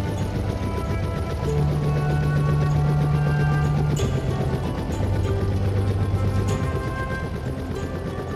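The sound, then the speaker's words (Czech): A helicopter's rotor and engine drone steadily and loudly, with a low tonal hum and dense rushing noise that hold throughout without pause. No one speaks. “Rotor vrtulníku se zastavil.”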